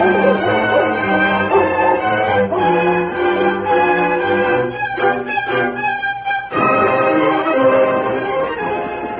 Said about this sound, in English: Dog looks like he's got the scent.